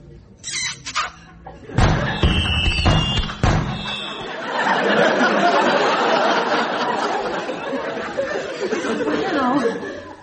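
A quick volley of sharp firework explosions from a large display concluding a concert on the South Bank, around five loud cracks in two seconds, gives way to a sustained, busy din of crowd-like chatter and commotion.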